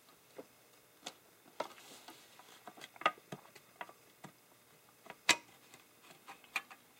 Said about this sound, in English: time we open up the typewriter.